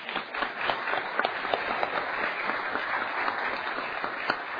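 A room full of people applauding steadily, a dense wash of many hands clapping at once, moderately loud and sustained for several seconds with no pause.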